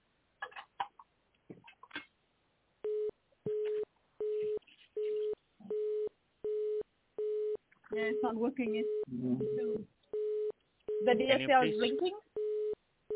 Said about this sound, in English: Yeah, it's not working. It's the DSL is blinking. Yeah, okay. I hear the busy line. Yeah. The busy sign. So it's busy because the modem is turned off.